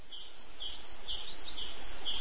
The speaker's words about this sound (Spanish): Abro la ventana y oigo el piar de los pájaros en el árbol de enfrente.